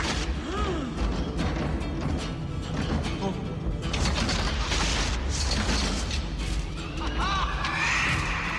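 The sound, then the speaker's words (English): Heavy doors around a building bang shut one after another, loud thuds and crashes layered over creaking, clattering mechanical noise that fills the space throughout. “All the doors slam shut around the building.”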